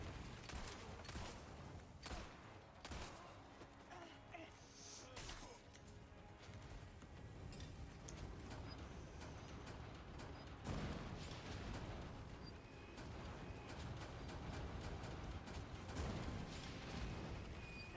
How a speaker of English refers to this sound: Oh, no, you just press A and you pick up the cannon. I mean, get behind the cannon and start shooting.